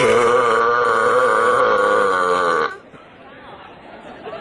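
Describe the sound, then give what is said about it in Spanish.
A long, loud, drawn-out burp rumbles for nearly three seconds, then cuts off abruptly, leaving a quieter murmur of background chatter. “¿No será que esta persona nada más es que eructa un poquito más fuerte que las demás personas?”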